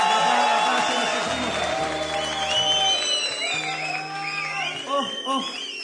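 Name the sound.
audience applause and cheering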